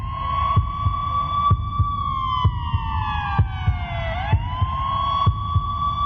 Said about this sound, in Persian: فکر میکنم یک ساعت رو مسیر از رینه تا آمل اگر اشتباه نکنم و این آمبولانس همینجور آژیر کشان میرفت به سمت آمل